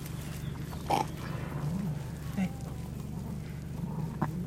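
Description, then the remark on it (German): A ewe lying on a pasture pants heavily after giving birth to wet black lambs, which a shepherd lays before her snout so she can lick them. A few short, breathy bursts are spaced out over a steady low background hum, moderately loud. “Ein feuchtes, schwarzes Lamm nach dem anderen legt der Schäfer der keuchenden Schafsmutter vor die Schnauze, damit sie es ablecken kann.”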